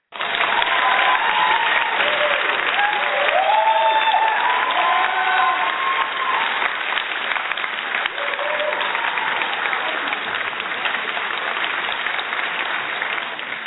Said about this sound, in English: I'm just giving away applause today because I applaud and commend you and your husband, amen, for those 35 years. So we have some applause for you and your husband.